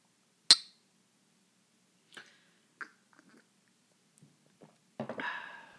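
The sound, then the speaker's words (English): One bright, ringing clink of glasses in a toast, followed by a few soft knocks and handling sounds, then a brief burst of rustling noise at the end. No one speaks. “Cheers.”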